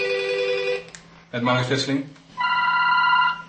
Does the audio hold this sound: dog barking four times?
no